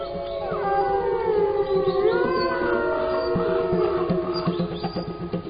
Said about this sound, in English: But howling wolves frighten even them.